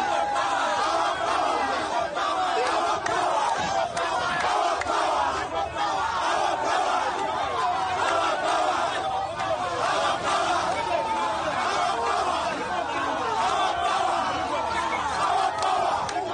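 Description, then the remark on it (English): A large crowd chants and shouts slogans outside a police station in Uganda where legislator Kyagulanyi was being held, in a loud, unbroken roar of many voices that holds steady for the whole stretch, with no single speaker standing out. “Media reports say crowds chanting slogans gathered at the police station holding Kyagulanyi.”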